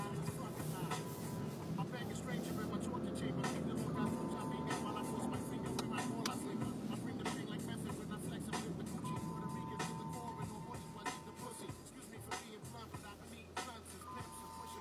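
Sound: truck horn honking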